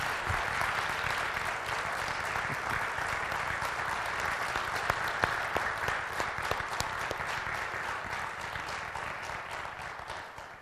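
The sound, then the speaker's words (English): A crowd applauds steadily for about ten seconds for someone who served that morning, a dense, even wash of many hands clapping at a constant level with scattered sharper claps standing out, and no voices heard. “You can clap for him.”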